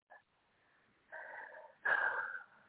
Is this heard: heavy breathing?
yes